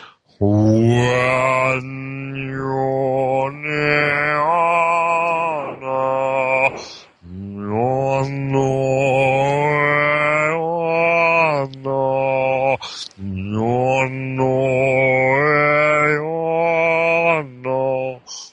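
A single voice sustains long, resonant toning notes in three extended phrases, the pitch slowly bending and sliding. Steady and fairly loud, with brief breaths between phrases and no speech.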